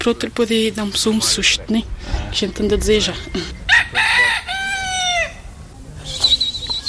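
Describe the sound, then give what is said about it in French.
Chickens cluck and a rooster lets out a loud, drawn-out crow, with a voice speaking over the busy farmyard sounds in the countryside, where farmers raise chickens and grow maize, potatoes, beans and onions. “Des paysans élèvent des poules et cultivent du maïs, des pommes de terre, des haricots et des oignons.”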